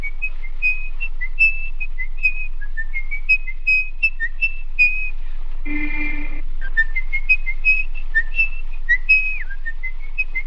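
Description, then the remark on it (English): A man whistles a wandering melody, steady and fairly close, note after note with short gaps; a brief harsh, buzzing blast cuts in once around the middle before the whistling carries on. “Not a scary movie, but a really chilling one where Peter Lorre stalks the streets of Berlin, whistling as he closes down on his prey, little boys and girls.”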